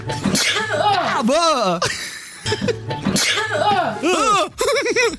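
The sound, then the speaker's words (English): A couple of sharp sneezes, each followed by a high, swooping, surprised-sounding vocal squeak, loud, with laughter and excited voices woven around them. “How's it decided how you're going to sneeze?”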